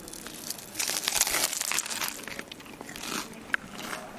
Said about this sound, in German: Knuspert sehr. Also wenn das kein knuspriges Brötchen ist, beziehungsweise knuspriger Schweinebauch, dann weiß ich auch nicht. Total lecker.